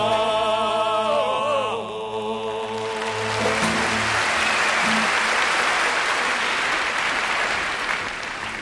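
A song's final sustained notes ring out and give way to a burst of loud, steady applause from a large concert audience at Carnegie Hall in 1955, the clapping continuing as a dense wash of sound.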